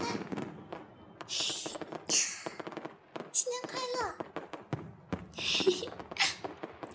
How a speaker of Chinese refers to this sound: 放烟花了！放烟花了！快看，弟弟，好漂亮啊，紫色的。